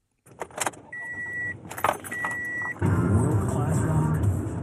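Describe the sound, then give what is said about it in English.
Car sounds at an independent gas station in Los Angeles: keys jangle while a steady electronic chime beeps twice, then an engine turns over and settles into a loud, continuous rumble. “It's been hard for gas stations, too, like the Magic Gas and Cafe, which has no gas today.”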